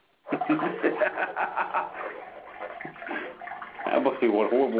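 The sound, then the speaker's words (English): A person urinates in a steady stream that splashes continuously into a toilet in a bathroom for several seconds, while people chuckle and talk over it. “Always got to hear you piss in my ear.”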